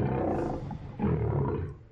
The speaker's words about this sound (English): Lion.